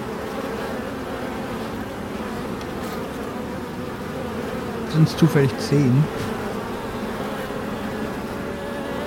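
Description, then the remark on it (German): A dense, steady drone of many buzzing insects, like a swarm, fills the whole clip without a break, while a voice briefly speaks over it partway through. “Das Surren wird schmerzlich laut. Es ist definitiv mehr als eine der Kreaturen. Es ist ein ganzer Schwarm.”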